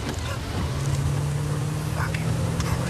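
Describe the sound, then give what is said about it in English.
A car engine drones steadily as the car drives in the rain, wrapped in a constant wash of hiss like rain and wet road noise, continuous and unchanging throughout. “drives his car in the rain.”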